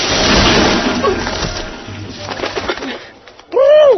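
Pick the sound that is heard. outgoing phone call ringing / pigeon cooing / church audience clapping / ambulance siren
pigeon cooing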